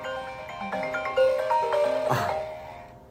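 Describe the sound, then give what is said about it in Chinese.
A phone rings from an incoming Chinese spam call, a melodic electronic ringtone of bright tones playing alone at moderate volume for a few seconds, then cutting off as it is hung up. “中国的垃圾电话，对不起，我挂了。”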